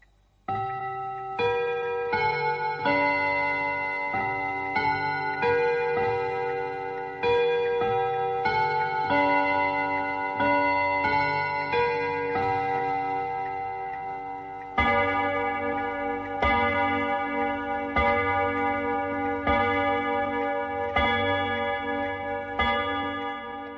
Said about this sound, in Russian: Вот как звучат настенные часы.